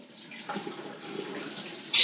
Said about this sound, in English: Just put some more water in the kettle. Ooh, is there enough in there?